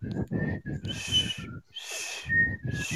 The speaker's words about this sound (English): Here, I'll whistle for you.